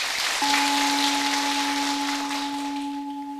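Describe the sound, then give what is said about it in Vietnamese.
Steady, dense applause from an audience of Buddhist followers fills the whole few seconds at an even level, with a constant low electronic tone humming underneath after the first moment. “Nếu quý Phật tử cam kết làm những việc này thì cho một tràng vỗ tay nào.”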